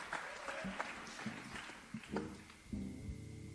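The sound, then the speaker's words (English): An audience applauds steadily for several seconds after a song at a live music performance, a dense wash of many hands clapping at once, with a few brief voiced sounds and a sustained tone rising through the crowd near the end. “Hey, this sounds a wee bit more depressing than that, so see how you're clapping now in 5 minutes.”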